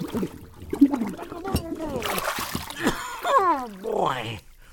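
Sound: splashing water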